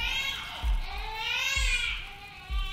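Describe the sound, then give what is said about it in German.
A baby cries in a continuous, high-pitched wail that rises and falls, fairly loud, with soft low thuds recurring roughly every second underneath. “Vor einer hübschen, geräumigen Steinzeithöhle sitzen drei Neandertaler zusammen am Feuer und wärmen sich die Füße, als plötzlich ein Baby schreit.”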